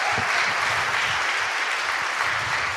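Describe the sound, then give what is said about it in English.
A steady burst of audience applause, many hands clapping in a dense, crackling wash that holds at an even, fairly loud level for about three seconds with no voices. “So he deserves more than a round of applause for thank that.”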